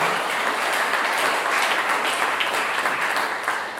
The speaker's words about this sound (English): And yeah, let's give her a round of applause, my wife and my mom.